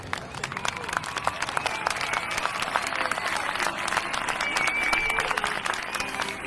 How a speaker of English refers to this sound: All right. It's nice to be cheered on. Make sure you cheer each other on.